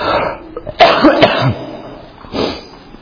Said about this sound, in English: Excuse me, I've been battling a cough for about 3 weeks. Thought it was gone, but came back. Some things that stay, you want to go. This one, I want it to go. And appreciate your patience.